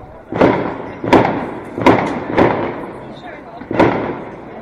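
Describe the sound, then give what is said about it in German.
Fireworks explode in a quick, uneven series of five loud, booming bursts, each sharp crack trailing off into a brief crackling rumble before the next. “Weiß denn jemand von euch etwas über dieses Feuerwerk?”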